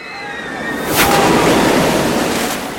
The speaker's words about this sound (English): It's raining hot dog water! That's a really big drop.